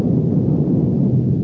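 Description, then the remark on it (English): A giant roll of a thunder drum: a loud, sustained low rumble rolling on steadily for a second and a half, dense and booming, with no voices. “And after the fanfare, a giant roll of the thunder drum.”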